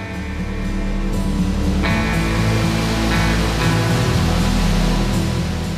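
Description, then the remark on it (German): A large waterfall in a gorge, known as the great waterfall or 'Kanonenrohr', roars steadily and loudly as the stream shoots over the rocks, a dense rushing wash of water that never lets up, with no voices over it. “Der große Wasserfall. Er wird auch Kanonenrohr genannt.”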